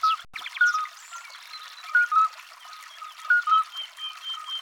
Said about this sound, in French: Nous sommes au bord d'un ruisseau, près d'une ferme. C'est le 20 avril, 5 heures du matin. Cette jolie musique, sur quelques notes, c'est celle des alites. Des petits crapauds, des mâles qui cherchent à attirer les femelles en chantant.